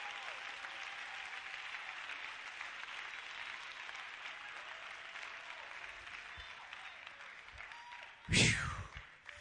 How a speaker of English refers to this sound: Clap your hands and worship your Lord. He's mighty.